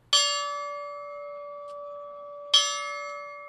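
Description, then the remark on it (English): A bell is struck twice before the first horse race of the summer meet at the Saratoga racetrack in Saratoga Springs, about two and a half seconds apart, each loud, clanging strike leaving a bright tone that rings on steadily. No voices are heard. “There was the bell, but no bugler before the first race at Saratoga.”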